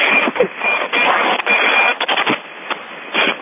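A steady, rough roar like a tractor engine running in gusty wind, heard through a thin, telephone-like line, with the loudness surging and dipping in uneven bursts. No voices.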